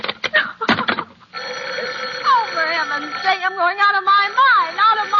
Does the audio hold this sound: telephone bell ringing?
yes